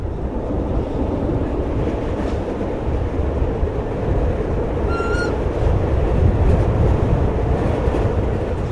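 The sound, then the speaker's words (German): A red-and-cream 1980s narrow-gauge train rattles steadily from Liestal into the Waldenburg valley, heard inside the hot train with its windows open: a loud, continuous rumble with clattering wheels and a brief high squeal of metal partway through. “Die rot-cremefarbigen Züge aus den 80er Jahren rattern von Liestal ins Waldenburgtal”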